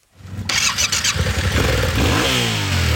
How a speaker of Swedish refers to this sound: Här har vi en motorcykel. Den är 700 kubik. Den har packboxar för att vi ska få med oss grejer.